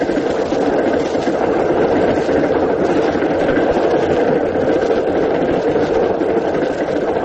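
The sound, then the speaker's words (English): A train rolls steadily along the rails at night with a loud, continuous rumble and rattling clatter that stays constant throughout, with no voices. “Then your train pulls into a siding and stops.”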